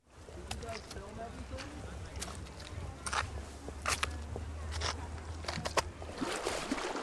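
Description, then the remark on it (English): A skipping stone plinks across the Yuba River in the Sierra foothills of Nevada County, a string of sharp, bright ticks and splashes at uneven intervals over a steady low watery rumble. “There's the plink as the stone first hits the water.”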